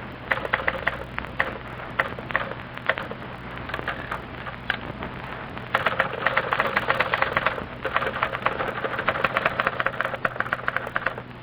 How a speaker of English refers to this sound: And now for a little demonstration of one striking fact about our product. Listen to these two girls, each typing a letter.